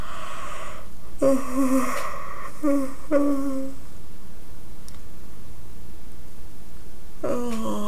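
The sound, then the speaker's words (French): A person yawns aloud several times to loosen the jaws, breathy voiced stretches sliding down in pitch, fairly clear, with quiet pauses between them and a final yawn starting at the end. “Donc, je vais te suggérer de bâiller pour débarrer tes mâchoires.”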